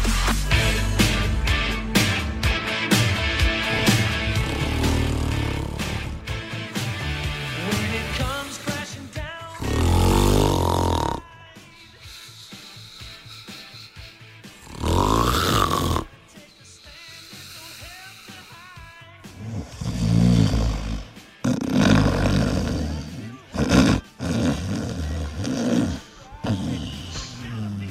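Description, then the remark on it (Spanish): Loud human snoring, a series of rough, rasping snores repeating every few seconds with quieter gaps between them, following a dense stretch of noisy sound at the start. “Además, este tipo de ronquidos, ¿no? Me parece muy, muy gracioso.”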